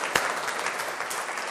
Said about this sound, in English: Well done, give yourselves a big round of applause.